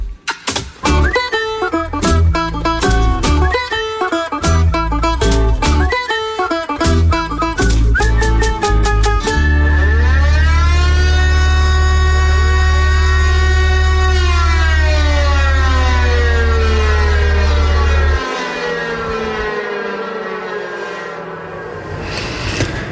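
A civil defense warning siren winds up into a long rising wail right after a cheerful song ends, sustained loud over a low steady drone, then easing off near the end.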